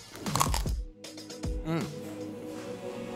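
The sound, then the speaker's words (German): A loud crunch as someone bites into a crusty black baguette filled with sheep's cheese and peperoni, with brittle crackling and then a few quieter crunchy chews, while a faint voice-like hum lingers in the background. “Wenn man das hört, den Crunch, das ist richtig Musik in meinen Ohren, wenn man da reinbeißt.”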